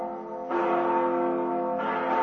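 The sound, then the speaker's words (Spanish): Two huge church bells, each weighing around 10 to 15 tons, ring out together, their deep, sustained tones overlapping in a dense, resonant wash with a fresh strike swelling the sound partway through. No voices are heard. “son dos campanas muy grandes. Te estoy hablando de toneladas y te estoy hablando...”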